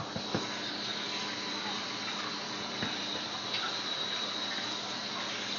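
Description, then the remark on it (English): Steady water streams from a tap for several seconds for dogs to drink, a continuous hissing flow with a few faint knocks and clatters underneath, fairly quiet. “Now they're getting some water, so we'll, back up.”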